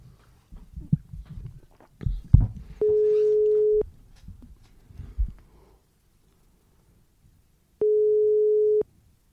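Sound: phone call ringing tone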